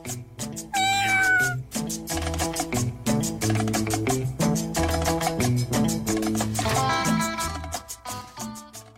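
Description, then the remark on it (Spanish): Several drawn-out cat meows for the 'El gato político' segment sound loudly over a steady, rhythmic musical backing, one near the start and more toward the end, with the beat continuing throughout. “Ahí quedaron los maullidos del gato político.”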